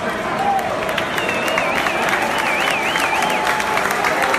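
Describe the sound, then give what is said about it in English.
A stadium crowd at Fenway Park gives a sustained standing ovation as Baltimore Orioles center fielder Adam Jones comes to bat against the Boston Red Sox: dense steady applause and cheering at full volume, with a wavering whistle rising above the roar throughout. “Last night, fans did, and Adam Jones was clearly moved by the ovation he received.”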